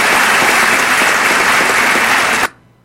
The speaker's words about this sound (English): Everybody on both sides of the aisle are standing and applauding. Everybody.